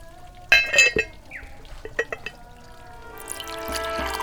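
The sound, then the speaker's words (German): Tea is poured into a cup as a refill: a few light clinks of porcelain first, then a steady liquid stream that grows fuller and brighter as the cup fills, clear with no talking. “schenke mir noch einen Tee nach, dann erzähle ich es dir.”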